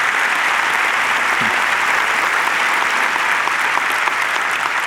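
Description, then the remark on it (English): An audience claps steadily throughout, a dense, even wash of many hands at a loud, consistent level with no voices standing out. “Yep, you can clap at that.”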